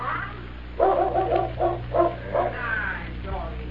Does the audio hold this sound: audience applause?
no